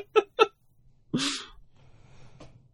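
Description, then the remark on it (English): Two quick, sharp catching breaths lead into a loud, drawn-out sneeze that bursts out and trails off into quiet breathing. “Longest sneeze in history.”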